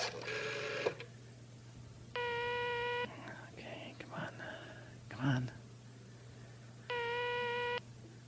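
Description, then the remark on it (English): A call is placed on a rotary-dial telephone in a studio, and the line rings through the receiver, two long buzzing rings several seconds apart, with faint clicking and rustling between them over a steady low hum. “I'm glad they didn't put in these touch-tone phones in the studio here. It's nice to have the rotary dial.”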